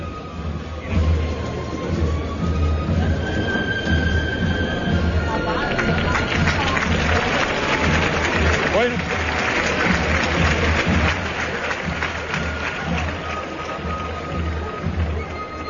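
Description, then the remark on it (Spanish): A bullring crowd bursts into steady applause as bullfighter Andrés Romero comes out while the paseillo forms, a dense clatter of clapping that swells after a few seconds and holds loud to the end, with murmuring voices and faint tones underneath. “Andrés, los aplausos a la salida de Andrés Romero.”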